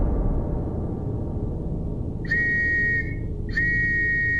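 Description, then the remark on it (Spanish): A guard blows a shrill whistle twice in long, steady blasts to signal the end of visiting hours, the second blast starting right after the first ends, over a constant low rumble of background noise. “Apenas terminó mi hermano de contar esto, y entonces uno de los guardias pitó con el silbato.”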